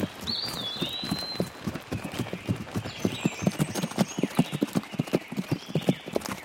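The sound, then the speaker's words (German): Steady clip-clop of the hooves of a horse being ridden on hard ground, a brisk regular rhythm, with faint birdsong chirping in the background. “Ich glaube, sie ist dort entlang geritten. Also dann, ihr nach.”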